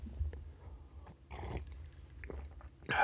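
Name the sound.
sipping hot coffee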